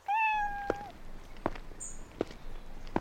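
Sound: cat meowing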